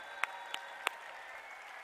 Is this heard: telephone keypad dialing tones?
no